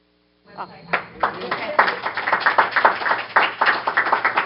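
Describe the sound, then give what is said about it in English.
A group breaks into a round of applause after a brief silence, many hands clapping in a dense, steady patter that grows fuller and keeps going loudly to the end. “And just, I would do a round of applause.”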